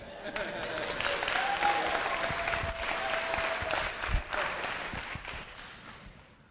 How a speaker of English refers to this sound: You can clap.